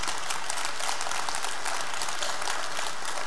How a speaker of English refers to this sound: We don't cheer these people because of what they've done. Oh, we're proud of them.